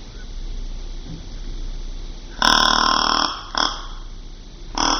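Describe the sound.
A deep, throaty adult deer grunt blown on a game call: one long, raspy burp-like grunt followed by two short, abrupt grunts, loud over a quiet hiss, with no talking.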